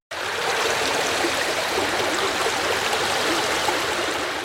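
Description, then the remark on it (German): Water splashes and sloshes steadily in a bathtub, a continuous rushing wash that holds an even loudness throughout, with no voices. “Schatzi, bist du noch in der Badewanne? Nein, ich bin gerade in Griechenland. Schwimme im türkisblauen Meer und genieße die Sonne.”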